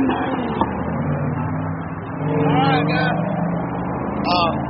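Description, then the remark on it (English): Steady low engine rumble of school-bound traffic to an elementary school and a high school passing a union coal miners' picket line, the drone swelling midway as traffic moves past, with indistinct voices mixed in underneath. “So right now you're in the heart of traffic to the elementary school and the high school.”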